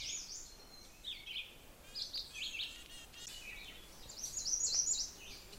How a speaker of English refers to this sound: All these other birds keep singing around me, but I'm also hearing a redstart and a black-throated green warbler, but neither of which is really close enough to sort of be louder than the veeries.